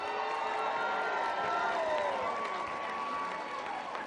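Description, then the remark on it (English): A convention crowd cheers and applauds steadily for the NFB of Florida, a dense wash of clapping and shouting with a few high whistles and whoops riding over the noise for about four seconds. “Let's hear it for the NFB of Florida.”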